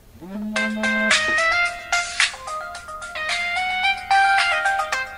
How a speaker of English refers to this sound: Oops, hang on. Okay, so I had to answer that phone call. That was a friend of mine.